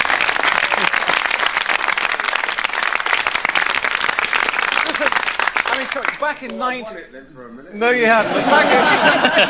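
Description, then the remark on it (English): A studio audience breaks into loud, sustained applause for Lord Such, a dense wash of clapping for several seconds before a voice speaks briefly and the clapping swells again. “I think you deserve a round of applause for that, actually.”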